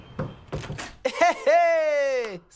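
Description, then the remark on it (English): The front door of a flat clunks open to a man, with a few short, hollow thumps of the latch and handle, followed right away by a man's loud, drawn-out exclamation. “… opens the front door of his flat to a man.”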